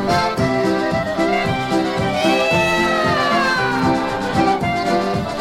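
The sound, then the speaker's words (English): Singers imitate cat meows in long, sliding vocal tones over a bouncy polka band with a steady oom-pah bass beat, loud and continuous throughout. “I told you they were singing in cat on that one.”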